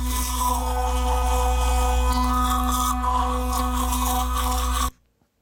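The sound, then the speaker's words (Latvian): An electric toothbrush buzzes steadily for about five seconds, a loud, even, low-pitched motor hum with a faint scratchy texture on top, then cuts off abruptly. “Elektriskā zobirsta.”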